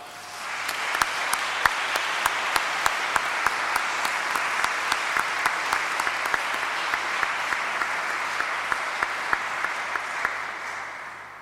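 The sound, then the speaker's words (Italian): Sustained applause from a crowd for the young people, at the first meeting of the Cattedra di San Giusto: a dense steady wash of clapping with sharp individual claps standing out, holding at an even loudness for about eleven seconds before easing slightly at the end. “E a questi giovani io farei un applauso.”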